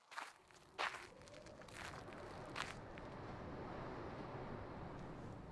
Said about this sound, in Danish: Bladene, der rasler i vinden. Hans fodtrin i skovbunden. Og fuglene, der pipper.